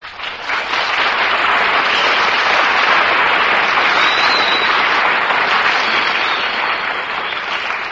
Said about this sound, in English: That's an announcement that really deserves applause.